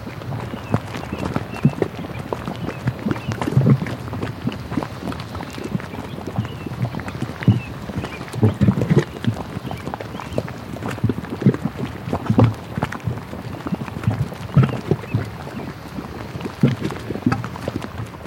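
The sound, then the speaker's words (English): Geothermal mud pots at Fountain Paint Pots bubble and plop continuously as heat and gases release through the mud. Irregular thick, low gloops and wet pops rise over a steady churning hiss, with no voices. “One of my favorite things to record are the mud pots. And so this next recording is fountain paint pots.”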